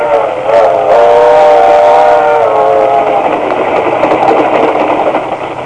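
A moving train rumbles steadily and loudly, with a sustained multi-tone whistle blowing over the engine noise for several seconds before the sound settles into continuous rolling clatter.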